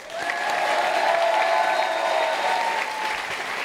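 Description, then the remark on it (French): An audience breaks into sustained applause, a dense steady roar of clapping hands that holds at a constant loudness throughout, with no one speaking over it. “On peut l'applaudir.”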